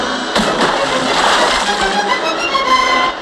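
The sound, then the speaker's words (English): Heavy splashes of pirates being kicked off into the ocean, with two sharp impacts early on followed by a steady, loud churning and sloshing of disturbed sea that continues throughout. “Albert's kicking pirates off into the ocean.”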